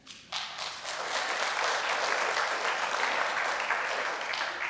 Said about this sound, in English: And because of your generosity, this church is a church. So give yourself a round of applause for that.